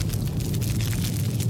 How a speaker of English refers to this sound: So, what I had to do next was build the sound effect from scratch. So, I started with some roaring fire. And then I added some whoosh sounds. And a few explosions. And finally some crackling fire.